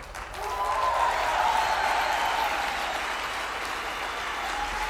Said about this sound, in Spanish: Fuerte aplauso, por favor.